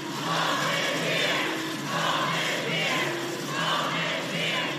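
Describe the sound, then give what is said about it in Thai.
Hundreds of young undocumented immigrants shout the slogan "Home is here" in unison in front of the US Supreme Court in Washington, D.C.; the loud chant rises and falls in steady repeated phrases about once a second, with a continuous roar of voices underneath. “เสียงร้องตะโกน Home is here หรือบ้านของเราอยู่ที่นี่ดังกึกก้องไปทั่วบริเวณหน้าศาลฎีกาของสหรัฐในกรุงวอชิงตันดีซีนะคะเป็นเสียงของหนุ่มสาวหลายร้อยคนที่เข้าเมืองโดยไม่มีเอกสารถูกต้องหรือเรียกว่าเป็น Undocumented Immigrant”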